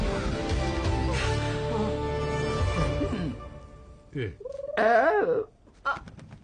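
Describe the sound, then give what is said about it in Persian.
A bird calls out loudly: a short cry, then a longer warbling, wavering call and a brief final chirp, following a few seconds of dense, busy background sound. “یه پرنده بود.”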